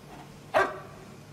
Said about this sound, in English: That's Marilyn, Vivian's dog.